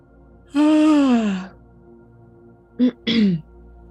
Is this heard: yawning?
yes